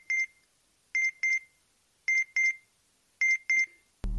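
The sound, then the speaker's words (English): A communicator device's electronic notification alert beeps in a crisp, high tone: one beep, then three evenly spaced double beeps, clear with no talking, ending with a brief low thump. “That's a notification from my Earthbound communicator. It alerts me of any usage of the word Excelsior.”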